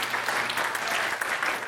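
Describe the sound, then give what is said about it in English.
Sustained audience applause for the final round-one competitor being introduced in a competition, a dense steady wash of many hands clapping at an even loudness throughout, with no voices rising above it. “Let him hear it. Clap your hands for Marty.”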